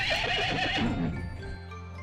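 A horse lets out a loud whinny that quavers and trails off over about a second and a half, with no talking.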